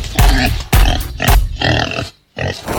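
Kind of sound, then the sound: animal, pigs grunting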